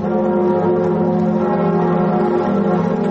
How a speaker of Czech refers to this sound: Zvuk zvona na katedrali Notre Dame u Parizu narednih godina neće se čuti, jer je vatrena stihija zahvatila crkvu u aprilu prošle godine.